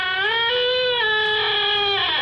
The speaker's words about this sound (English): The shed door still squeaks.